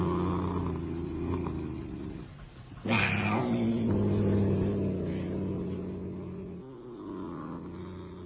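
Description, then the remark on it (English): A sleek, fat cat named Saladin purrs steadily, a gentle, low rumbling drone that swells briefly louder partway through before settling back into its continuous, even hum. “But even more particularly, she found comfort in her cat, in the gentle, oh-so-comforting purr of her sleek, fat cat, Saladin.”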